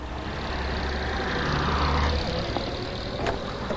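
A taxi cab's engine idles at the curb with a steady low rumble and hum while suitcases are loaded into the cab, joined by brief clunks and a faint rising whine partway through; no voices are heard.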